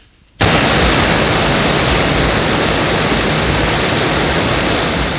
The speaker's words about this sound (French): Rien pour s'abriter. Le vent, la pluie font rage. La pluie traverse ses vêtements.